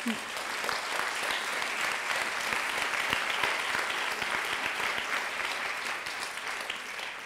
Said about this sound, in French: Vous m'applaudissez, mais je n'ai pas le pouvoir de... C'est pas moi qui décide de la formation.